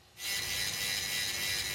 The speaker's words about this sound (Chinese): 并精细地把它们打磨光滑